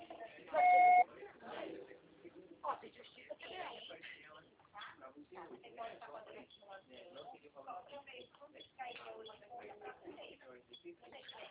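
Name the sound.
answering machine beep tone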